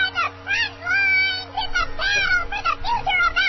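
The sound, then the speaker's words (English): A voice imitates an evil kitten, giving a string of whiny, wavering meows with rising and falling pitch, fairly loud, over about three seconds. “That's a little Evil Kitten.”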